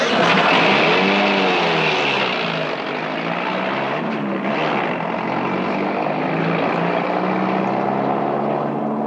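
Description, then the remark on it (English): A propeller airplane engine starting and running, roaring loudly, a dense steady drone whose pitch rises and dips slightly throughout, with no voices; the wheel chocks are kicked out and the flaps set up. “Kick the chocks out from under the wheels. Flaps up.”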